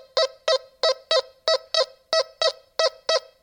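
A metal detector in its manual Iron Threshold mode sounds a rapid series of short, buzzy electronic tones as a 1-cent coin is passed flat over the search coil, about eleven evenly spaced beeps at a steady mid pitch, fairly loud, with no talking.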